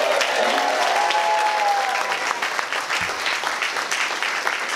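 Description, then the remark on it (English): A crowd cheers and claps steadily for a young girl who is helping the environment, a dense wash of applause lasting several seconds with a few whoops and shouts rising over it before it gradually thins out. “Can you give her a cheer?”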